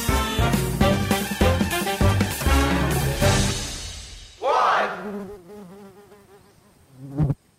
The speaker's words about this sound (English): It's one of those annoying summer sounds, a buzzing fly somewhere in your room, or even a mosquito zipping around your ceiling late at night.